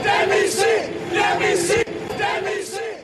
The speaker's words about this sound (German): Die Demission bzw. den Rücktritt der Regierung und von Staatspräsident Klaus forderten am Donnerstagabend in Prag rund 2000 Demonstranten auf dem Wenceslasplatz.